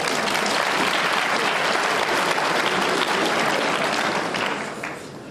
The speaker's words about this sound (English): Applause.